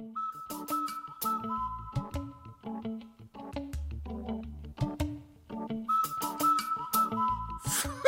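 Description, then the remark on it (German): A whistle sounds repeated cuckoo-like calls, steady and fairly loud, over a busy backing of rhythmic knocks and low tones, with no one speaking. “»Mit einer Pfeife, das kann ja jeder!«”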